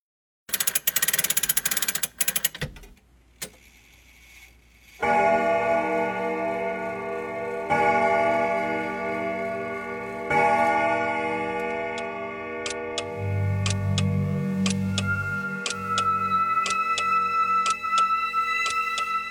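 An old quartz clock ticks steadily while striking in several slow, resonant strikes as its hands meet at twelve, the ringing tones overlapping and lingering, after a brief burst of noise at the start. No one speaks.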